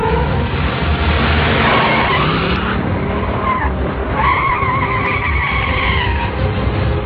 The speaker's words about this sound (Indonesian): Mobilku mulai melaju dan mulai memutarkan mobil menuju keluar.